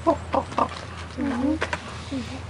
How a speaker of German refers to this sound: Das ist Singen bei Raben. So singen Raben.